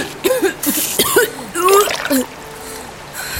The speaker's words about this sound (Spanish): Tosí y escupí agua del río a borbotones.